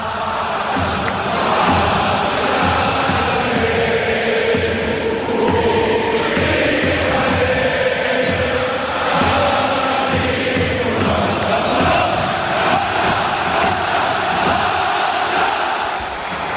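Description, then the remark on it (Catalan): A huge stadium crowd at Camp Nou sings an anthem together without accompaniment, a loud, steady wash of thousands of voices holding sustained, drawn-out notes for the whole stretch. “Però vull dir que quan el públic el canta a capella, funciona.”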